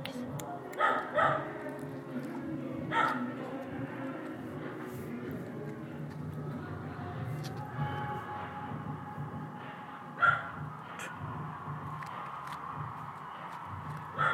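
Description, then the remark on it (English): A dog barks in short, sharp bursts: a quick pair early on, then single barks spaced several seconds apart, over a steady low background murmur that may include faint voices. “Hey, bark in time, mate.”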